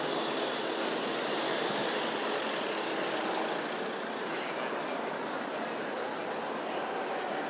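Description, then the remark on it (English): A van's engine as it turns round in the middle of an empty road in front of St Paul's Cathedral, under a grey sky; its steady, broad hum and hiss holds at an even level throughout with no sharp changes, blended into general outdoor background noise. “There's a van turning round in the middle here.”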